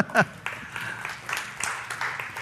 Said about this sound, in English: I'm really excited about that. Yeah, you can clap.